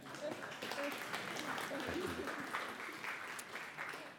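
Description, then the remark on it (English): An audience applauds a Bible reading steadily for about four seconds, a dense, even wash of many hands clapping with faint voices murmuring underneath. “Round of applause.”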